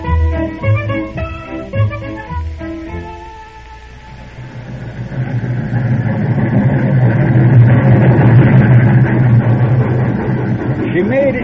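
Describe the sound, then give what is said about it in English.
A train pulls into a station: a few seconds of tonal, whistle-like hooting, then a deep rumbling roar that swells steadily and stays loud and heavy to the end. “You can't expect the train to pull in on time every day”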